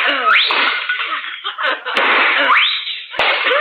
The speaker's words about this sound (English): Oh, you shot those two China pheasants.